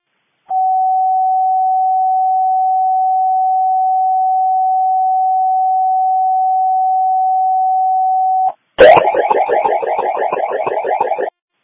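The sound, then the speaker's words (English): A Dickinson County District 1 Fire Department pager alert tone, repaged to cancel a false fire alarm: one steady, mid-pitched beep held unbroken for about eight seconds, then cut off by a click and a loud, raspy buzzing burst for the last few seconds. “Could you repage District 1 to cancel?”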